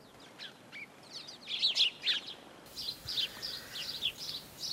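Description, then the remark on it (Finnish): A European robin (malinovka) sings in a garden in Orlovka, a run of bright, high warbling phrases and thin trills repeating steadily, with no voices over it. “Mikä lintu tässä sinun puutarhassasi noin kauniisti visertää?”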